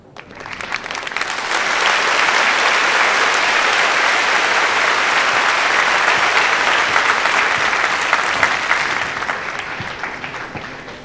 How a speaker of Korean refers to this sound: 뜨거운 박수 부탁드립니다.